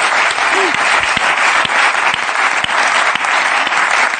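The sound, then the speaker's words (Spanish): A crowd applauds steadily, a dense, even wash of many hands clapping at full volume for about four seconds, with no pauses or voices standing out. “Un aplauso para ese muchacho, hombre.”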